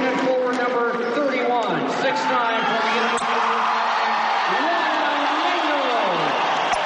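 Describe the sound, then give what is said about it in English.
A basketball crowd in Laramie cheers and shouts steadily as a former Cowboy now playing for the visiting All-Stars is reintroduced to the fans, many overlapping voices whooping and calling out at once in a dense, loud roar that holds its level throughout. “The All-Stars are used to getting booed on the road, but the crowd warms when”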